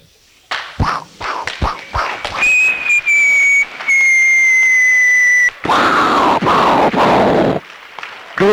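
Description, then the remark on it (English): Firecrackers go off: a quick run of sharp pops, then a loud high whistle that holds for a few seconds, ending in a harsh fizzing, crackling burst. “Okay, everyone, take out your firecrackers and light them.”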